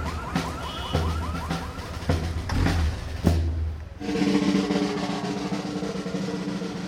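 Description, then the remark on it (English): A car alarm blares, cycling through rapid warbling chirps and then shifting to a steady repeating tone, loud and continuous with no one talking. “The bass drum or the band is loud enough, and the vibrations frequently will set off 3 or 4 car alarms in a parade.”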